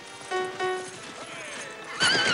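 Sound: horse-drawn carriage approaching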